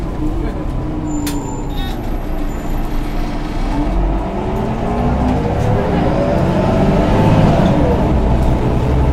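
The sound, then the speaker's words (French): A bus travelling from Mumbai to Pune, India, rumbles steadily along a road, its engine drone filling the low end while the noise of passing traffic rises and falls around it. Faint, indistinct voices may be mixed in. “Arrivés à Mumbai, nous avons pris le bus pour Pune”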